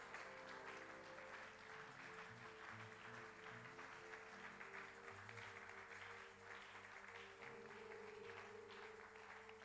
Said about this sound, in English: Can we rise up? And at least encourage God and encourage the preacher by clapping and shouting.